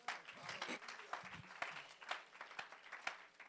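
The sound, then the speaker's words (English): An audience claps for the Lord Jesus, a dense, continuous patter of overlapping hand claps with sharp peaks throughout, while a few faint voices mix in underneath. “Clap for the Lord Jesus.”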